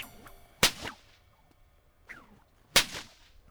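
A woman cracks a whip: two sharp, loud cracks about two seconds apart, each with a brief swish through the air before it, with no voices.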